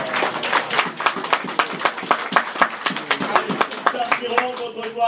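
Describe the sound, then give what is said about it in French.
A crowd claps and applauds the Lord steadily for several seconds, a dense, energetic patter of many hands, with voices mixed in beneath the clapping. “Et tu n'applaudis pas l'Éternel. Applaudissez l'Éternel.”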